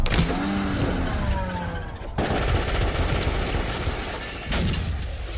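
gunfire

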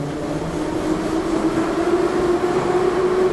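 subway train running

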